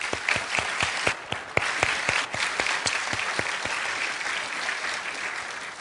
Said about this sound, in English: Let's please give them a round of applause.